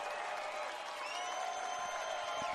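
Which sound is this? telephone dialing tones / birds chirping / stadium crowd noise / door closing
stadium crowd noise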